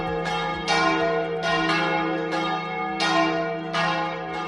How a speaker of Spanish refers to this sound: Jueves Santo, como siempre y como se hacía antiguamente, a partir de esta tarde dejarán de sonar las campanas en Madrid.